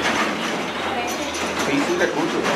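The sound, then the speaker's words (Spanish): A tractor rumbles past with a loud, steady engine drone, a deep low hum beneath broad clattering mechanical noise that holds constant throughout. “Incluso que haya pasado el tractor, lo escucho.”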